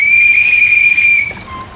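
A loud, shrill whistle sounds an attack signal, one steady, sustained blast for just over a second before cutting off, leaving a brief fainter tone trailing behind. No one speaks.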